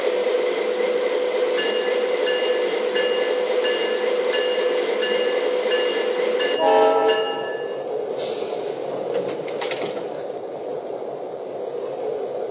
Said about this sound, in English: Now departing for Los Angeles on track one. Train number 12, the Grand Canyon.